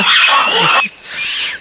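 Two loud, harsh roaring bursts from large monkeys, played from a recording through a small loudspeaker box at full volume, the first long and rasping, the second shorter after a brief pause, with no talking.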